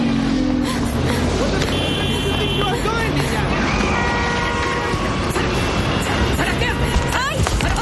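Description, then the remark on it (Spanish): A car drives along with a steady, loud rumble of engine and road noise, with muffled voices and scattered higher tones mixed into the continuous roar. “¡Como no pares, me tiro en marcha!”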